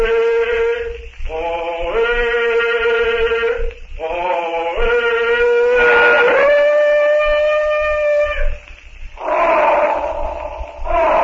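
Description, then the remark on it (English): Tantor the elephant trumpets from the jungle, answering Tarzan's call, in a series of long, brassy blasts, the pitch wavering and sliding up and down between short breaks, with no voices. “And from the jungle comes the answering call of Tarzan's friend, the trumpeting of Tantor the elephant.”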